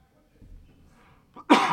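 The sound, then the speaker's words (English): A single loud, explosive cough bursts out after a moment of quiet breathing and faint rustling. “I need a cough button.”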